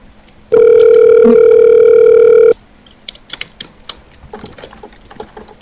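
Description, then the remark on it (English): A phone call placed around midnight rings once with a long, steady electronic ringback tone lasting about two seconds, then goes quiet apart from faint clicks and handling noise. No one picks up or speaks. “That's why you're calling. They won't even answer.”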